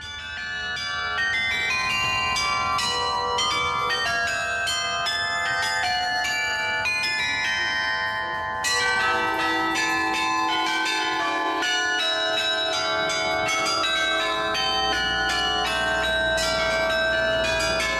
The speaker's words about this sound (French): si Genève devait s'écouter, ça serait quoi? Ça serait... Là, on a entendu le carillon de la cathédrale. Ah ouais, j'adore.